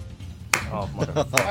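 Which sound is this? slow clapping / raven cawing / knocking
slow clapping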